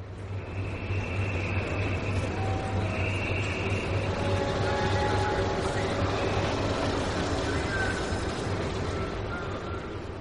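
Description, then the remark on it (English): A steady, loud roar of a car-carrying train travelling through a tunnel toward Calais, France, with drivers sitting in their cars aboard, a deep droning hum and constant rushing noise that never lets up, plus a few faint high whines drifting over it. “you have to put your car on a train”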